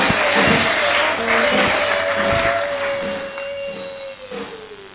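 An audience applauding for the pastor, the man of God: dense, steady clapping that fills the whole stretch and eases slightly toward the end, with a held tone sounding underneath that dips in pitch at the close.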